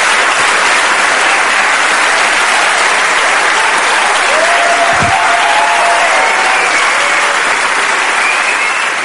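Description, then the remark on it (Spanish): Sustained audience applause for Agustín Jiménez, a young man at the very start of his career: a dense, steady wash of clapping hands that stays loud throughout with no one speaking over it. “Despellejaos las manos aplaudiendo a un chico que está muy en el principio de su carrera.”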